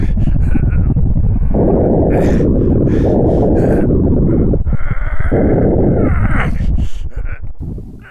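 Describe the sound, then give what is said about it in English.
Someone trying to start Hagen's hot bulb engine, which needs its bulb heated to ignite the fuel: a loud, low rumbling chug with rapid pulsing beats that surges in two bursts, then sputters and fades near the end. “Ah, someone is trying to fire up Hagen's hot bulb engine.”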